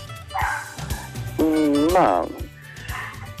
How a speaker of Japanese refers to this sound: あ、今ワンちゃんめちゃくちゃ泣いてますけど大丈夫ですか。 あ、大丈夫ですよ。